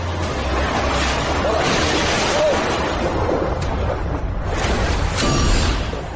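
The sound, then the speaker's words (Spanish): Loud, steady roar of rushing rapids on the James River in Bedford County, Virginia, with churning surges and a heavy splash as a paddled boat plunges into the icy water, faint shouts buried in the noise. “No hay nada como un chapuzón en agua helada para sentirte vivo de verdad.”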